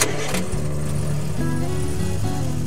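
A car engine turns over with a brief noisy burst, then settles into a steady idle hum that shifts pitch slightly a couple of times, as the car sets off for San Gimignano in Tuscany. No voices are heard.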